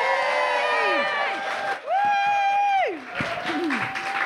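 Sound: audience applause and cheering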